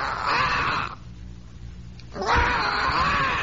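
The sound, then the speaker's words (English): A person voices two loud, drawn-out screeching wails, imitating a wildcat's scream, separated by a brief quiet pause, with no talking. “It doesn't sound like a regular cat, you know, meow, you know, the regular cat. A wildcat has a scream, really.”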